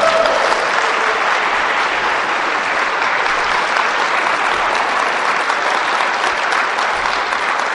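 Sustained audience applause offered to the Holy Spirit fills the whole stretch, a dense, steady, loud clatter of many hands clapping at once, with no voices standing out above it.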